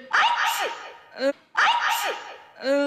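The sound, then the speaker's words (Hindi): A woman sneezes twice in quick succession after being made to sniff snuff instead of a knockout medicine, each a loud burst followed by a short breathy, voiced trailing sound. “ये क्या शेख चिल्ली, ये तो छींक रही है।”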